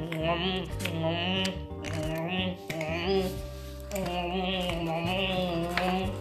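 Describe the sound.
A voice imitates a hippopotamus chewing gum, as Mr. Brown can do: irregular wet smacking and clicking sounds, repeated several times over steady, tonal musical accompaniment that plays throughout.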